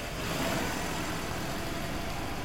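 A car engine hums steadily as Zulu drives the car away from beside a park near a townhouse, a continuous mid-level rumble with broad road noise and no voices.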